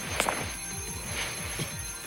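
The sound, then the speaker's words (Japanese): A steady electronic alarm rings continuously, a fast repeating bell-like trill with sharp bright bursts, loud, filling the whole moment with no voices. “このアラーム音からまずは逃げるんだよ。”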